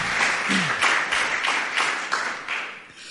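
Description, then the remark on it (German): A church audience in Gambach gives thank-you and welcome applause to first-time guests, many hands clapping in a dense, bright patter that holds fairly level for a few seconds before thinning slightly at the end. “Auch nochmal einen Dankeschön Applaus oder Willkommensapplaus.”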